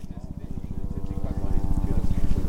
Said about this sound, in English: It's a clear, cool morning in West Texas, and about 50 people are watching a helicopter wind its way around the south side of Elephant Mountain, a brown, flat-topped summit about 250 miles southeast of El Paso.